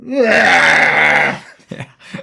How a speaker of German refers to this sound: So laut ist der Schrei.